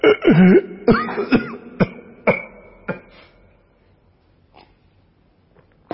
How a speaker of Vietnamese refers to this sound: Khóc quá anh ta lại bị ho.